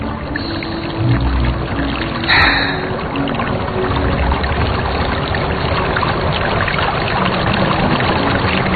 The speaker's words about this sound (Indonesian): Terdengar suara air dari kejauhan. Aku coba dekati dan ternyata di sebelah bangunan ini adalah sungai. Saat itu malam hari, jadi sangat gelap.